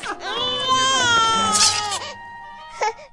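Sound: baby crying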